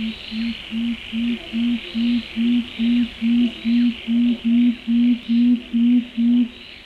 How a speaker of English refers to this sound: That was the unusual call of the tawny frogmouth, which is not actually an owl like the other birds that we've talked about.